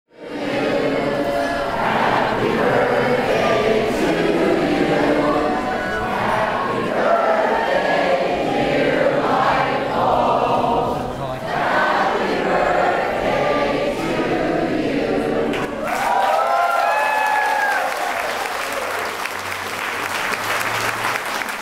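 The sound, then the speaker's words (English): A crowd of over 200 people sings "Happy Birthday" to a light bulb for about fifteen seconds, loud and reverberant, then breaks into sustained applause and cheering with a few whistles. From the documentary The Light Bulb Conspiracy. “You just heard a crowd of over 200 people singing happy birthday to a light bulb.”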